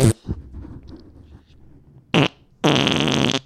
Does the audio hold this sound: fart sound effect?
yes